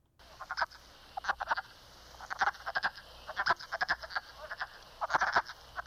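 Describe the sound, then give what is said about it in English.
A chorus of wood frogs gives short, clucking, duck-like quacks in irregular clusters, several calls overlapping with no voices present. “The wood frog sounds kind of like it's quacking.”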